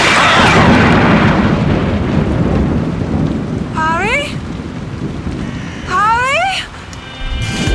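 A steady, loud roar of a storm with rain, lightning and heavy rumbling thunder near an oak tree, with two brief rising-and-falling vocal cries breaking through partway along.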